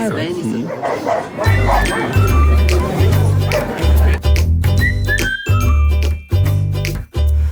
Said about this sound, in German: Guck mal, irgendwo streiten sich 2 Hunde.